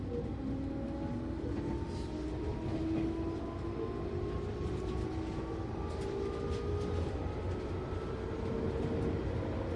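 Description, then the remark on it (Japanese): A commuter train bound for Shibuya and Ebisu rumbles steadily at a station platform, with a low continuous roar and faint gliding tones rising and falling as it moves, with no voices heard. “渋谷恵比寿方面の電車でございます。”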